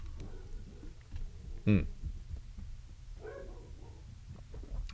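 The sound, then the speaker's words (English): A single sharp bark rings out from one of three dogs in a house with its door open, followed a moment later by a softer, whining yelp, all over a steady low background rumble with no talking. “Alright, it was nobody there, but the door was open, and I'm sure the cat was outside, so the three dogs were like, hey, man.”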